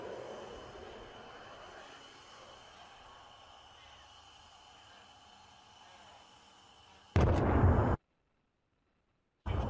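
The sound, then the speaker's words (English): A munition explosion on a military training range, sending debris flying: a long, low rumbling roar fades slowly, then a sudden loud, harsh blast cuts in, goes silent, and another burst starts at the very end. “You see the explosion?”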